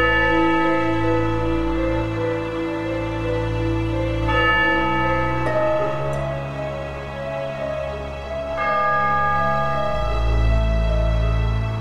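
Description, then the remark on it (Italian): Church bells in a church bell tower ring loudly and continuously, their deep, overlapping tones layering into a dense, resonant peal that shifts pitch now and then, with no voices. “La nostra storia inizia con un suono di campane, quelle del campanile di una chiesa.”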